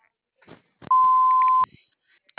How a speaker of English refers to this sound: Please leave one detailed message after the tone with the best phone contact number, and I will return your phone call within 24 to 48 hours.